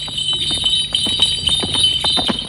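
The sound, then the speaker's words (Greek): The hooves of a horse named Astri clip-clop in a quick, steady rhythm, fairly loud, while the small bells it wears jingle continuously over the hoofbeats. No one speaks. “Βράμε τα κουδούνια σου και τα πέταλά σου. Φεύγουμε.”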